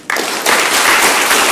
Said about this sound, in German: So, und jetzt will ich einen Applaus für Gott hören.